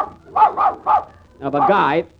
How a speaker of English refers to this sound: Madam, must your dog bark when I'm talking? You don't expect him to laugh, do you? No, but he can wipe that sneer off his face. Now, keep him quiet, please.